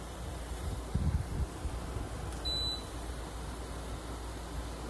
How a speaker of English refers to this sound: This is the air conditioner in my bedroom. Now, I have a mini split system, so I can keep it quiet if I want to, but this is like an old school window air conditioner, and I love it because it just drowns out everything else.